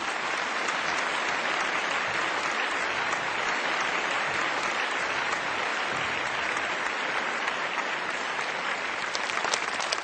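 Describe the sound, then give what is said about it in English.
Sustained audience applause at a conference, given for Supreme Master Television: dense, steady clapping from many hands at an even loudness for the full ten seconds, with no voices rising above it. “Ladies and gentlemen, let's give another warm applause for Supreme Master Television.”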